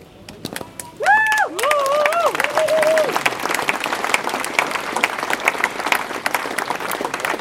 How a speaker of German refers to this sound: Und an dieser Stelle noch einmal ein ganz herzliches Dankeschön. Großer Applaus für Sie. An unsere nicht-weißen Genossinnen.